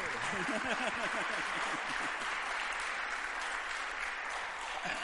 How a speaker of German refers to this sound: Und vielleicht gebt ihr mal so einen fetten Applaus.